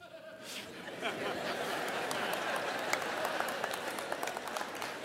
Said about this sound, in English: Now, that being said, all the people with difficult marriages are clapping right here, right now, or I'm not sure. Some people got really into that statement.